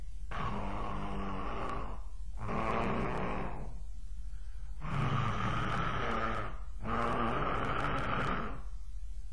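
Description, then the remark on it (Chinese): A storyteller imitates Li Kui's thunderous snoring as he sleeps: four long, loud, rasping, rumbling breaths in a slow, steady rhythm, each separated by a brief pause, forceful with a growling, roar-like quality. “李逵睡觉还绝，闭上眼用不了几分钟就着，眼睛一合一会儿睡着了，一睡着这就打呼噜，鼾声如雷。”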